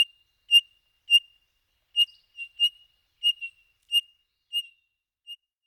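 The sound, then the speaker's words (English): A Townsend's solitaire gives a series of about ten high, clear squeaky notes, like a creaking pulley, repeated at a steady, slightly uneven pace with short gaps between them. “The distinctive call sounds like a squeaky clothesline pulley.”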